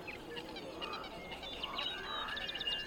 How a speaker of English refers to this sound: There's only one sound that makes it through the filter. Birdsong. Birdsong makes it through.